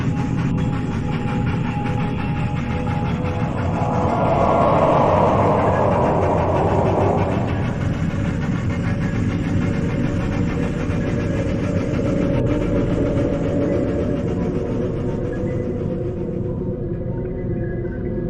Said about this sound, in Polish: No i pociąg jechał.